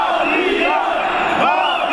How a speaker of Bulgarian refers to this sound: Сигурно и вашият глас, както и гласът на някой ваш познат, се чува в тези викове. Вероятно, гласът ви може да се чул и по време на февруарските протести.